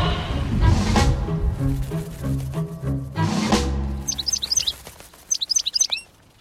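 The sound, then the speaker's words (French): After a few seconds of low, murky background sound, birds break into two quick bursts of high, bright chirping and twittering, clear, before cutting off. “Eh oui, hein, toujours les oiseaux.”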